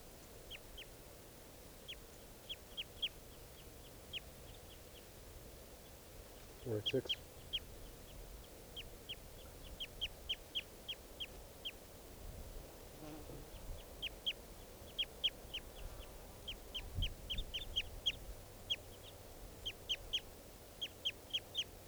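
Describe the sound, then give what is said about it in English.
Several birds trade quick, high chirping calls in repeated bursts, bird 486 calling with birds 481 and 483 responding back and forth, over a low, steady background rumble with an occasional brief thump or rustle. “So recording bird 486.”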